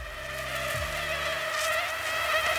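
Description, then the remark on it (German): A steady, high-pitched mosquito whine drones continuously, holding a thin tonal buzz with slight wavering in pitch throughout. “Das ist das wahrscheinlich gefährlichste Tier der Welt. Mücken oder was soll das sein?”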